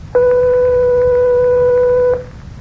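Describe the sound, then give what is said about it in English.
A steady, pure electronic test tone in a pitch-recognition test holds a single pitch for about two seconds, loud and even with faint overtones, then cuts off abruptly. The note is 1/8 of an octave above B natural, around seven tones above middle C. “The note that was played was 1/8 of an octave above B natural.”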